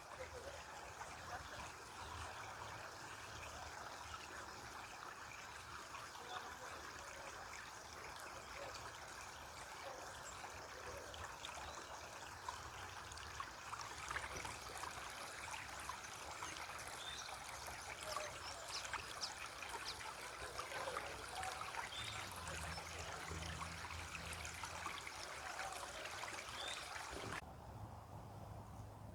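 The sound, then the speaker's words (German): A brook flows steadily over stones, a continuous bright trickling and babbling that stays even throughout, with no voices. “Und dann schließ deine Augen und werf das symbolisch alles in den Bach hinein.”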